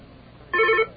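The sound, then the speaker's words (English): A telephone ringer, its volume cranked all the way up, sounds one short, loud electronic tone burst with steady, bright harmonics, cutting in abruptly after a faint hiss and stopping just as suddenly. No one speaks. “And you have the volume control button on the phone to make the ringer go louder.”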